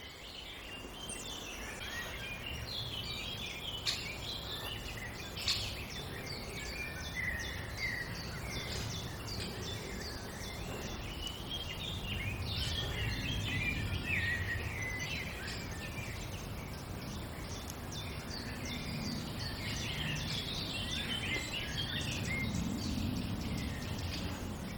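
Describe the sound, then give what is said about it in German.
Outdoor landscape soundscape with several birds singing: a blackbird's song from quite high up and a chiffchaff's repeated chirps over a steady low rumble, with insect-like buzzing mixed in throughout. “Die Kulisse wird von außen herum untermalt von Amsel gesenkt, ziemlich weit oben und Zilpzalp.”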